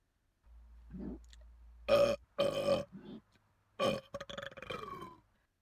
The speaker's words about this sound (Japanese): くっさいくっさい。あたしのゲップ全部受け止めてね。